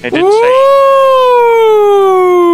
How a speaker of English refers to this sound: That was totally an ambulance siren.